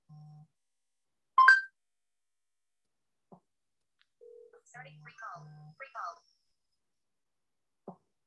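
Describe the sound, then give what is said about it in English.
Short electronic phone tones as a free call to a ride-booking driver is placed: a low steady beep, a bright chirp, then a burst of quick warbling ringback-like tones between brief beeps, with soft clicks in between. “Would you like to make a phone call or free call? Free call.”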